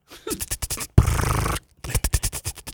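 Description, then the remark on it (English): A voice imitates a slow-moving traveling sprinkler tractor, called a creeping tractor, with quick, rhythmic, breathy 'ch-ch-ch' ticks, a steady half-second hiss, then another run of ticking bursts, moderately loud and without other talk. “I had a creeping tractor once.”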